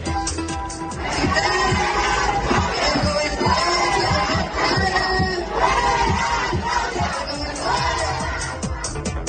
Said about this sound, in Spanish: quien al cierre de su recorrido por el tren interoceánico en Tuxtepec, Oaxaca, no pudo terminar su discurso por los gritos de maestros de la sección 22 de la Coordinadora Nacional de Trabajadores de la Educación.